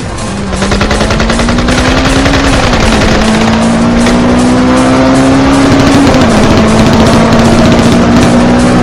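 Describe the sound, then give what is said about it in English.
A loud car engine roars, its pitch climbing steadily as the vehicle accelerates away, with a gritty, rattling exhaust throughout and no voices. “Now get in the fucking car and let's roll.”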